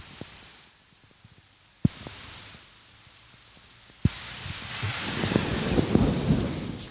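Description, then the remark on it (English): Steady rain hisses as sharp cracks of lightning break through, followed by a loud, close thunderclap that swells into a long, heavy rumble over the downpour. “Oh, there's lightning. Oh, let's listen.”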